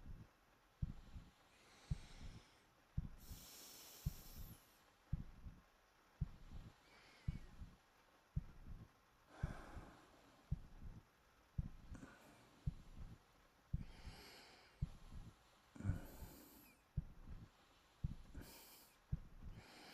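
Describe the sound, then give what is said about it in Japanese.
A man's heartbeat: steady, muffled low thumps repeating at a calm resting pace, with occasional soft breathy rustles and faint hiss between the beats. “俺の心音聞いて眠くなってきちゃったの？”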